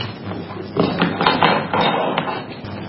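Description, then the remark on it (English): Metal scrapers from seeding drills clink and knock together as they're handled, a handful of irregular taps and clanks over a low background rumble. “Those are just the scrapers to our drills.”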